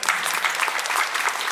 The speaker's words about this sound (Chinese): 给我点掌声。